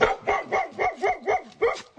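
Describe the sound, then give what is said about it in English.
Two Brittany Spaniel dogs at a ranch in southeastern Arizona bark in a quick, excited run of about eight sharp, yippy barks over two seconds, fairly loud, with no one talking. “But no one was there to greet me except two Brittany Spaniels and a cat.”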